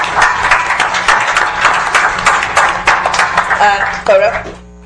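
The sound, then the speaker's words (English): A round of applause from a crowd for the Highline school board members during School Board Recognition Month. It is steady and fairly loud for about four seconds, with a few voices calling out near the end as the clapping fades. “Please join me in a round of applause for our school board members.”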